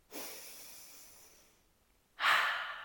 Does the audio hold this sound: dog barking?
no